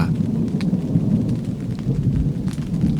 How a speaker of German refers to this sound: Gut. Mehr Donner. Mit Gewitter und Regen und Wind. Schön im Zelt zu sitzen.